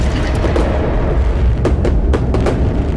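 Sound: fireworks explosions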